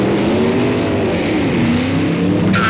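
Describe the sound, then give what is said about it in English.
A car engine revs hard and roars off, its pitch sweeping upward as it accelerates away, loud, with a brief high screech near the end. “And when she goes to the can the next time, you drop a robe there on the couch, run out, dive in the car, and...”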